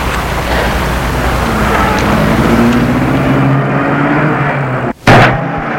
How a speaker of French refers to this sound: Puis, il met la voiture en route.